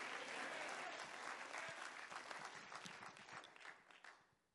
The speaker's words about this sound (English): If you believe that, you should clap your hands and shout amen.